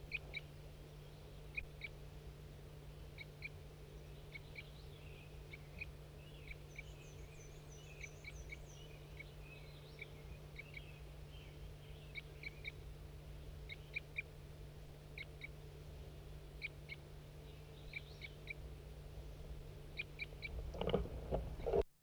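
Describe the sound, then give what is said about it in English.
A wild bird calls again and again with short, sharp chirps at an uneven pace, plus a brief trill partway through. The calls are fairly faint over a steady low hum, and no one speaks. “I can't see the bird, but this is a wild bird.”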